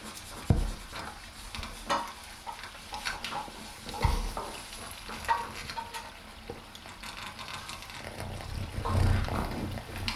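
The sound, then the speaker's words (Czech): Butter, just put into a hot frying pan, sizzles and crackles steadily, with a couple of soft knocks and scraping movements of utensils along the way. “Máslo jde na pánev.”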